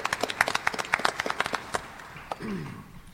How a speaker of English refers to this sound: Thank you. If you want to do applause, thank you.